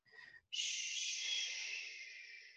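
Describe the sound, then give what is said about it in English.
A short breathy onset, then a long, steady "shh" exhalation hissing for about two seconds, made while pushing the belly out, fading slightly toward the end. No talking. “As you make the sound on the exhalation.”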